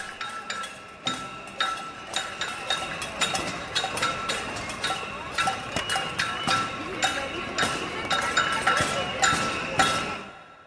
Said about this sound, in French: Ça, c'est un bon exemple d'estruendo. C'est les concerts de casseroles dans les manifestations argentines.